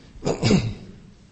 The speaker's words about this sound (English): That's an affliction of preachers, to get a little cough.